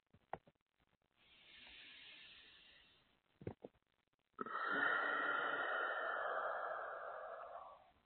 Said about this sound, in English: And let's do one more set of breaths, breathing light all the way from the top of the head down to the toes. Breathing it in, feeling it going all the way down to your toes with the inhale, and then with the exhale, releasing any tension in the body.